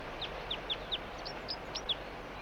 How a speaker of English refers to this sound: Meanwhile, the only decoy responding is bird 4-3. Stop. It's recording the same bird. It's not a red male.